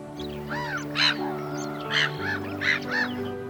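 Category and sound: bird, seagull calling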